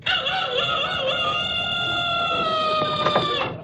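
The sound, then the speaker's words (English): A rooster on a roof in Beverly Hills crows loudly in one long, sustained call lasting several seconds, its harmonic tone holding steady before cutting off abruptly; no voices are heard. “just because my rooster makes a lot of noise, I gotta go and appear in court for disturbing the peace.”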